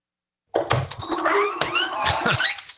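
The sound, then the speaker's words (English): A spooky secret-door sound effect on the radio show Coast to Coast AM: a loud burst of creaking, groaning tones that bend up and down over low thuds, running about two and a half seconds with no talking. “Who's behind the secret door? Let's open the door.”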